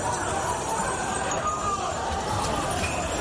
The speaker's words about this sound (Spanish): El sonido de unos 150 ultras del Rayo Vallecano, la mayoría del equipo madrileño, así como también algunos de la Unión Deportiva Las Palmas, que protagonizaban una reyerta este fin de semana en el que se enfrentaban los dos equipos